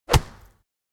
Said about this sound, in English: She punched the bag.